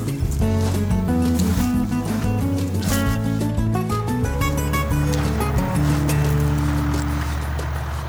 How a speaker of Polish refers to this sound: Jak słychać, traktory wyruszyły w prace polowe, także wiosna w pełni.